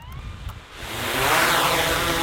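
A drone lifts off: a low rumble gives way to rising, whining motor tones that swell into a loud, steady buzzing whir, with no voices.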